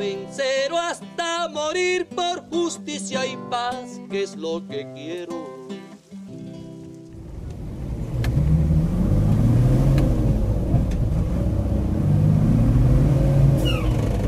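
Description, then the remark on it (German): Tonal music plays for the first half, then gives way to the steady, loud engine of a shared taxi rumbling and revving up and down as the driver weaves it along a pothole-riddled, bumpy dirt track in the green hill country of Catatumbo, April 2017. “In Schlangenlinien steuert der Fahrer das Sammeltaxi über die mit Schlaglöchern gespickte Buckelpiste.”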